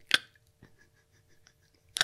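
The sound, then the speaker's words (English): Someone imitates with their mouth the clicking noise a person makes while sleeping instead of snoring: two sharp clicks about two seconds apart, with a fainter tick in between, in an otherwise quiet moment with no talking. “I find that really interesting because you don't snore, you click.”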